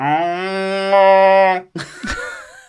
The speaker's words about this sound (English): Was that a cow or a siren? That was a War of the Worlds-like siren, but it sounded like a cow, so I apologise.